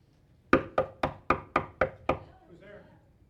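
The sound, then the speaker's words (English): Seven quick, firm knocks on a front door in an even, rapid rhythm, loud, followed by a brief faint voice as the knocking stops. “Now that's the sound you might soon hear at your own front door.”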